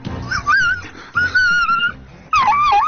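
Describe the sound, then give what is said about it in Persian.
A dog in Golestan province, Iran, wails and whimpers in pain from animal abuse, three drawn-out, wavering high cries in quick succession, loud, with short pauses between them and no talking. “زجه‌های تلخ یک سگ در استان گلستان پیچید.”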